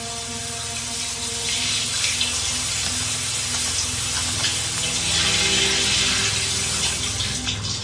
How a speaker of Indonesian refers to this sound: Terdengar suara keran air dimatikan. Sepertinya dia sudah selesai.